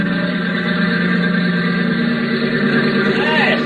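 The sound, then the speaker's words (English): A small plane, with its fuel mixture thinned out, circles a little airport about a mile from a hotel before coming in to land. Its engine drones loudly and continuously, the rough, buzzing tone holding steady with faint sputtering irregularities throughout. “she'd be circling that little airport about a mile from the hotel and sounding as though she was in trouble.”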